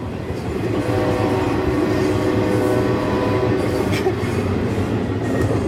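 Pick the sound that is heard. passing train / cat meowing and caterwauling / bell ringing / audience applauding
passing train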